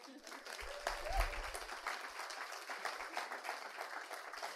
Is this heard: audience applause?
yes